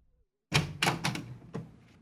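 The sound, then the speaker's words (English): A house door is opened by a servant after a knock, with a heavy thunk followed by a few quick wooden knocks and rattles of the latch, then a final softer clunk. No voices. “It was opened by a servant.”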